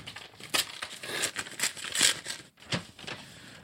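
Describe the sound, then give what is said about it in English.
Crinkling wrapping and crackling packaging as a package containing 45 rpm records is torn open, a run of irregular crisp rustles and sharp crackles with a brief pause midway. No one speaks. “Let me open this real quickly here.”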